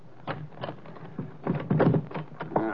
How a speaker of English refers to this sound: Wait a minute till I unlock the door.